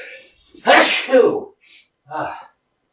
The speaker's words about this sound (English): Felt that sneeze coming on for a while.